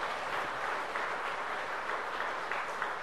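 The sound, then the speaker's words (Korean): An audience at Dream Church applauds the newly baptized members after a baptism, the clapping of many hands blending into a dense, steady crackle that holds at an even, moderate level for the whole few seconds, with no voices heard. “여러분 한번 박수해 주시기 바랍니다.”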